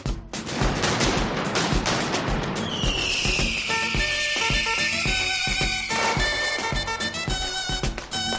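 firecrackers exploding

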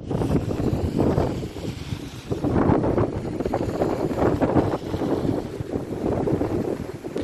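strong storm wind gusts

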